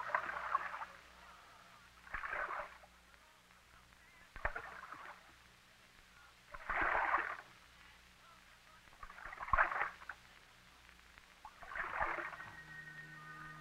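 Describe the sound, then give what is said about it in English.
A small boat riding on waves, with water sloshing and splashing against the hull in rhythmic surges every two seconds or so, over a faint low rumble. “The small boat follows for a space, feebly climbing the waves.”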